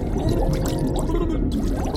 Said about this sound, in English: It was so much water that it turned my backside to an upside, and all I could hear were the bubbles gushing out of my mouth.